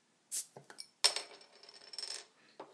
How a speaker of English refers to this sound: And this is meant to be St. Peter's best bitter. Which sounds good to me. No more pale ale for another day. Right, I'm going to take the lid off now, and then I'm going to sniff it.